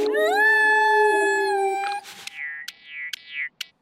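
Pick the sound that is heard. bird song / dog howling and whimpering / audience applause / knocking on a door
dog howling and whimpering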